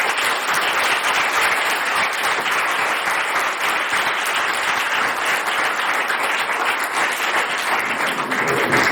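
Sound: audience applause welcoming guests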